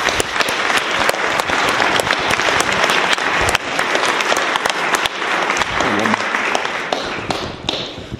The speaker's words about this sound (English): A round of applause. Welcome to the Senate.